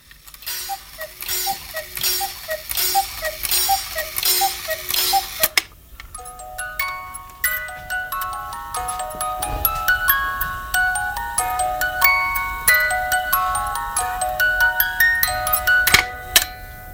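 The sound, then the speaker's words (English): A pendulum clock ticks steadily for a few seconds, then a bright, tinkling chime melody plays over it until the end, with no voices. “It's the fact that, indeed, it moves, it ticks, yes.”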